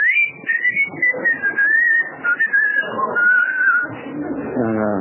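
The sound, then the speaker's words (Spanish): A long, wavering whistle, a warning signal given when someone is seen coming, rises and falls for several seconds over a busy, low rumbling background, ending with a brief lower, buzzy tone. “Cuando ven que viene alguno, sí. Me chiflan.”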